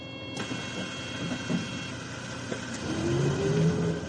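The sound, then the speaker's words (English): The engine of a Tokyo tournament bus, carrying tennis player Abigail Spears back to her hotel, drones steadily from inside the vehicle, with a few soft knocks and rattles, then a rising mechanical whine as it accelerates near the end. No one speaks. “She's the only player on the Tokyo tournament bus heading back to her hotel after an early tournament exit.”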